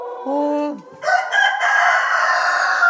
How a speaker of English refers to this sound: I saw a little silky crowing there.